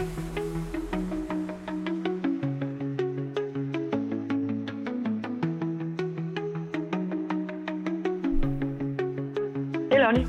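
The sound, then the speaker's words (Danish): A phone call rings through on the line: a steady, looping electronic melody with a regular ticking beat plays for about ten seconds, with no one speaking. “Vi ringer til hende.”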